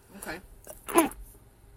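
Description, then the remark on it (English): A single sneeze, with a short breathy intake just before and then a sharp, noisy burst, fairly loud against a quiet background. “I had to sneeze there.”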